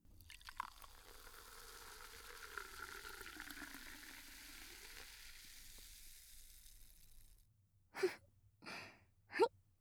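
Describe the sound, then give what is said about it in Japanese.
Cider is poured into a cup with a steady, bright fizzing hiss that fades as the bubbles settle, followed by a few short breathy sounds. “いい音ですよね。シュワシュワーって。”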